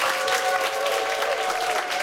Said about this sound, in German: Wir sagen Happy 30. für diese tolle Band mit einem großen Applaus im Studio 1